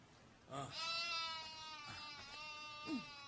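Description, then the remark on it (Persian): A sheep bleats as it is being milked by an old woman, one long quavering cry lasting over a second, followed by a couple of shorter, softer bleats. No one speaks. “پیرزن گوسفندی را می دوشد.”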